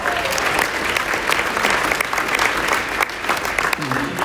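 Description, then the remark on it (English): Dense, steady applause from a crowd, many hands clapping at once in a continuous rattling wash that holds loud for the whole stretch, with a brief voice surfacing near the end. “Net W-2, clap it up.”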